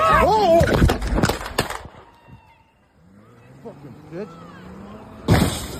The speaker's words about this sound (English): Like, this car is barely moving. You're scared of this? You had to shoot three times?